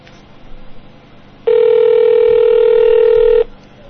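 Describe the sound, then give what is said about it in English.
A loud, steady telephone tone sounds on a line calling a payphone at 59th Avenue and Bell Road, holding unbroken for about two seconds before cutting off, with faint background noise before and after. “I need to use my psychic abilities to make someone pick up the phone.”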